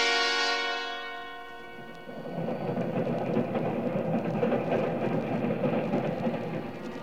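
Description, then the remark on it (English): A sustained, harmonic whistle-like tone fades out, then a train rolls along the rails in a steady, loud, rumbling roar with faint rhythmic clatter, and no voices, in a radio drama starring Gregory Peck. “Suddenly, I was awake, and I knew that I was riding on a train.”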